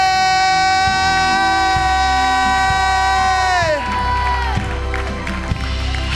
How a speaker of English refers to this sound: Let's give the Lord a shout. Let's give the Lord a clap. Come on, somebody.